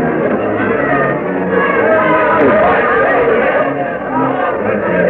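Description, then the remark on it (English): A large crowd waiting before the Raleigh Tavern, extending up and down Duke of Gloucester Street, murmurs steadily, many overlapping voices blending into a dense, continuous babble with no single speaker standing out, holding an even loudness throughout. “The crowd waiting here before the Raleigh Tavern extends far up and down Duke of Gloucester Street.”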